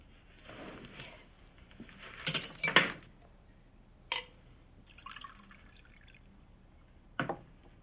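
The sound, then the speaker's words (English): Water splashes and trickles in a few short bursts, like liquid being poured into a glass in stages, with brief pauses and a final splash; no one speaks. “Do you have any water? You're supposed to have water for your patients.”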